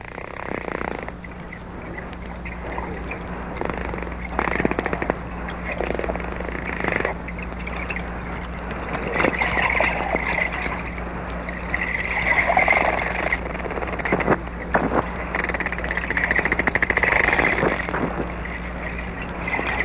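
Echolocation clicks from a male dolphin crackle in rapid, irregular bursts underwater as he searches for food in an enclosed experimental tank, with short chirping whistles rising over a steady low hum of water and machinery noise throughout.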